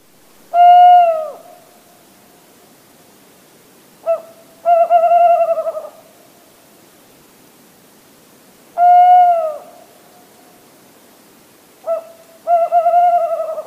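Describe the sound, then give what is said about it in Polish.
A tawny owl's hooting song, given twice: a long, clear hoot, a pause, then a short note running into a wavering, tremulous hoot. Fairly loud, with a quiet background and no talking. “Tak, sowy też śpiewają. Tak robi to puszczyk zwyczajny.”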